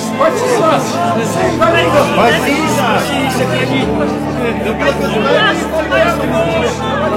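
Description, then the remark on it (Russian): A large crowd in Jerusalem shouts and calls out together as Jesus rides into the city on a donkey, a loud, continuous clamor of many overlapping voices, excited and festive in tone, filling the whole stretch without a pause. “Иисус въезжал в Иерусалим, сидя на осле, под радостные крики толпы.”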